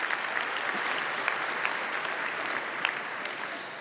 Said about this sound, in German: Einen ganz herzlichen Applaus bitte nochmal. Applaus